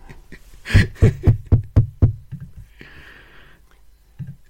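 Six loud, evenly spaced knocks from a door knocker shaped like two boiled eggs ring out in a quick steady rhythm, followed by a brief muffled rustle and a soft thud, with no one speaking.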